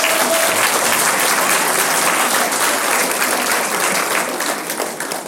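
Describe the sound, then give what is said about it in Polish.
A large audience claps steadily and loudly for a performing ensemble at the Kino Sokół in Stary Sącz on a November evening, a dense wash of applause that holds strong for several seconds before easing slightly at the end, with no one speaking over it. “Ja ten zespół cały, brawo dla was.”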